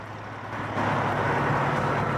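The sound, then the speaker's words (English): An idling tour bus engine outside a concert venue after a show at night, a steady low rumble with a constant droning hum that swells slightly after the first moment and then holds even. No one speaks. “Crew applaud him as he's hurried out of the venue by torchlight and straight into an idling tour bus.”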